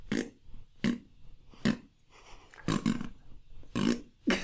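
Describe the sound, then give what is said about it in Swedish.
A rapid series of short, loud, raspy farting noises, around seven bursts in quick succession with brief gaps between them, prominent with no talking. “Men det blir att han bara fisar hela tiden.”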